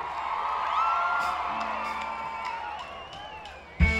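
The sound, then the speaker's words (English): A crowd of women screams and cheers in response to a call for the ladies to scream before a song, high-pitched shrieks and whoops blending into a sustained roar from a large audience, with a sharp thump near the end. “Let me hear the ladies scream!”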